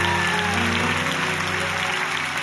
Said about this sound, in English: Somebody just clap your hands.